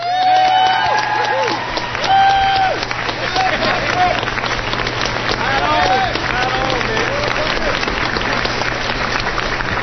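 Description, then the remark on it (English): A convention audience gives a warm round of applause for Mr. Patrick Perdue, dense and steady clapping with scattered cheers and whoops rising above it. “He's returned home now, but I hope that he's listening on the internet and that we can all give a very warm round of applause for someone who has a very bright future indeed, Mr.”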